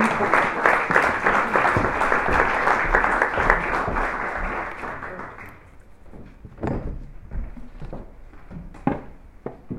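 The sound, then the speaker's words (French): Audience applause in Nantes as panelists are called up to a round table, a dense, steady wash of many hands clapping for about five seconds, then thinning into scattered individual claps and a few knocks as it fades out. “Sous vos applaudissements, si vous voulez bien.”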